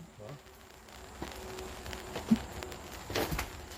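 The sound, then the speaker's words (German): Soft, irregular patter of raindrops with a few sharper drips standing out, heard quietly against a faint steady background hum; no one speaks. “Ich werde mal ein bisschen die Regentropfen vom Geräusch her und auch von der Stimmung her einfangen.”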